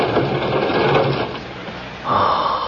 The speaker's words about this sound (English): Charlie, pull that John Doe drawer open, will you?